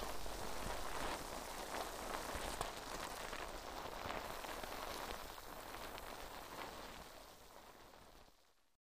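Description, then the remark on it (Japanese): Foam cleansing bubbles, lightly pressed down, fizz and pop in a steady, dense crackle of tiny bursts, sustained for several seconds before trailing off at the end. No voices are present. “よし、泡洗浄はこのぐらいかな。”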